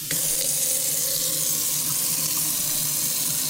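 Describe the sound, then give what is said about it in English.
A faucet runs steadily into a sink, a continuous hissing splash of flowing water, fairly loud, with no voices. “Water, H2O, the stuff we all depend on for life.”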